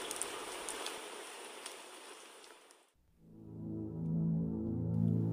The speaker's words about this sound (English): Torvhog was a cozy hole-in-the-wall pub that was devoid of life that night, thanks to the endless downpour.